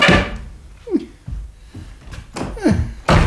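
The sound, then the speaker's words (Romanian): A door bangs open and thuds shut, with a short creak and several heavy wooden knocks, each followed by a brief, low rumble. “Poftiți pe ușă înăuntru dacă aveți vreo afacere.”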